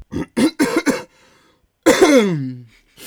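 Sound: coughing and throat clearing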